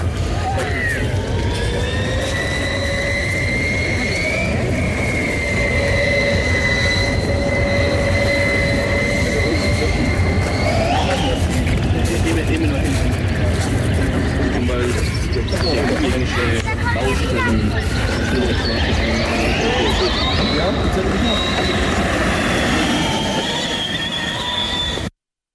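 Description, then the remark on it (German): The Einstein Motorsport AL22 Formula Student race car speeding past at its presentation in Ulm, its high electric whine climbing and dropping in pitch over a loud, steady roar, with no voices. “Hört sich das dann an, wenn so ein Formel Student Auto, in dem Fall das von Einstein Motorsport, vorbeisaust?”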